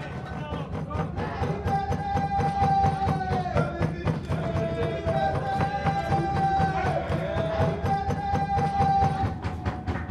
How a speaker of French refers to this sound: Donc là, je viens de prendre des sons. Des personnes qui se trouvaient à l'intérieur, donc c'était assez fort de les voir, à deux pas en train de taper sur les fenêtres et de vouloir sortir et communiquer avec nous.